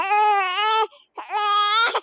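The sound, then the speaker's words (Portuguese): An infant inside a stable lets out two bright, cheerful, high-pitched cries, each sustained with a rich harmonic tone and separated by a short pause, loud and alone with no talking. “No mesmo instante, porém, veio de dentro do estábulo um alegre gritinho infantil.”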